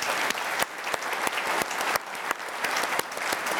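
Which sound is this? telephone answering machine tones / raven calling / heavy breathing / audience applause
audience applause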